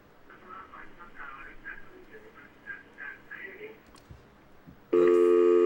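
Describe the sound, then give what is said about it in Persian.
A loud, steady telephone line tone cuts in abruptly near the end and holds to the finish, after several seconds of a voice talking over faint background noise, during a call to a television call-in show. “لطفاً تلویزیونتون نگاه نکنید، وقتی داره تلفنتون داره بوق میزنه صدا رو کم کنید، فقط به تلفن گوش بدین، تلویزیون نگاه نکنید”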